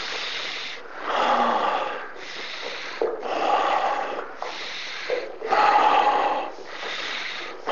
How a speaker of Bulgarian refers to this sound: Намери своя си ритъм на дишане и можеш да продължиш да се радваш на дъха си.